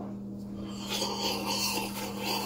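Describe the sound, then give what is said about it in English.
Someone slurps the last dregs of a coffee, a continuous airy, raspy sucking noise lasting a couple of seconds over a steady low hum, with no talking. “I was trying to get the end of the coffee there.”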